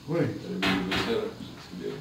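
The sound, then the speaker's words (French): Dishes clatter in the background, with two short, bright clanks close together, while people talk over them. “Il y a la vaisselle aussi.”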